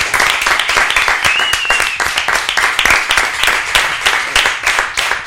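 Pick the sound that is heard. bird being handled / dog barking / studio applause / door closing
studio applause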